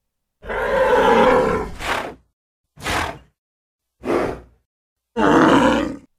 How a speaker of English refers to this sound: The gate burst open and out ran 100 raging bulls charging right for them.